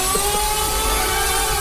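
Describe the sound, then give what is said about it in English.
A steady, high-pitched whirring drone of the spinning rotors of a Mars rotorcraft helicopter in flight, constant and unbroken, with a faint hum of tones under a wash of airy noise and no voices. “That you can fly a rotorcraft on Mars. It rotates around about 500 RPM faster than a helicopter on Earth.”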